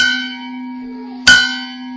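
A bell rings out clearly with no one talking, struck twice about a second apart, each strike leaving a long, bright, humming tone that rings on and slowly fades.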